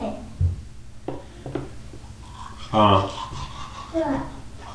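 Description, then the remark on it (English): Steady scrubbing of a toothbrush against teeth, a continuous rough rasp with small clicks, while a child briefly vocalizes over it a couple of times. “Is that your brush too?”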